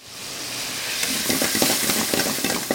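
Jalapenos sizzle loudly in a screaming hot wok as they are tossed into a chicken ginger stir-fry at Bowl of Flames, a Cambodian restaurant 30 miles east of Atlanta, Georgia: a steady hiss of frying broken by rhythmic scraping and tossing clatters. No one speaks.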